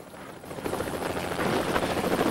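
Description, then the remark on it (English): A helicopter takes off and flies away into a clear blue sky over a barren landscape, its rotor roaring in a fast, steady chop that swells slightly louder over a couple of seconds, with no voices. “Behind them, the helicopter takes off and swings away to their left.”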